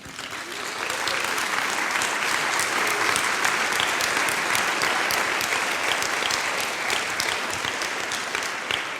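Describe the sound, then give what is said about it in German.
A crowd at an environmental and nature conservation organisation's event breaks into sustained, motivating applause, a dense, steady wash of many hands clapping that starts within the first second and holds at an even, fairly loud level throughout. “Und dafür fände ich jetzt schon mal einen motivierenden Applaus ganz, ganz wichtig.”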